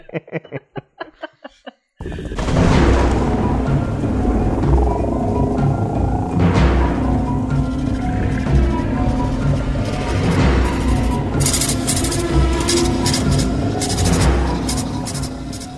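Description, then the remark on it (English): A storm sound effect: a few short vocal bursts, then a loud stormy roar kicks in, sustained wind-like rushing with deep rumbling thunder swelling and booming several times, overwhelming to the end. “It's the storm.”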